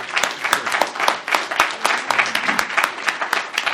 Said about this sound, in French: Bon. Vous pouvez l'applaudir, oui, parce que je trouve que